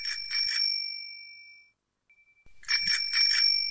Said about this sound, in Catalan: Nois, calleu, calleu, que em sona el telèfon mòbil.